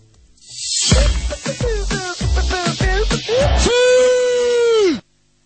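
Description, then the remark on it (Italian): A loud voice lets out a run of short rhythmic shouted bursts, then a long drawn-out celebratory scream that swells and cuts off abruptly: a person imitating Cristiano Ronaldo's goal-celebration cry. “Allora, non gliel'hanno fatto fare ieri a Cristiano Ronaldo questo urlo, perché l'hanno sommerso prima.”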